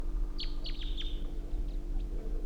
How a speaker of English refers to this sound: I can think I see the bird perched tall on a tall spruce tree.